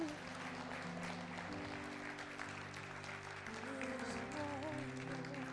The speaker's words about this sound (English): Bless the Lord. Bless the Lord. Give someone a round of applause this morning.